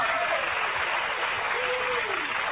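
Steady applause from a small group fills the whole moment, a dense continuous patter of clapping at moderate volume, with faint voices mixed in underneath.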